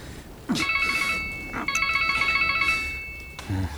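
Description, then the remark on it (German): A mobile phone rings during heavy rain in two electronic bursts, a bright, steady multi-tone trill that pulses rapidly, the second burst longer, followed by a faint click at the end. “Zu dumm auch, dass nur ich mein Handy mitgenommen habe, sonst wäre es ja... Wenn man vom Teufel spricht. Geh schon ran”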